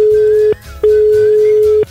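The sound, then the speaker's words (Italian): A telephone line tone while a call is placed: a steady single-pitched beep sounds, pauses briefly, then returns for a longer stretch, loud and clear over faint background noise. “Vai telefono, vai ciccio.”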